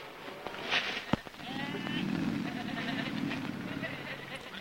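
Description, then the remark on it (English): A sheep in a muddy pen at a zoo lets out a long, wavering bleat lasting a couple of seconds, steady, preceded by a brief sharp knock against a noisy outdoor background. “panther and a leopard roam their cages while sheep cross a muddy pen.”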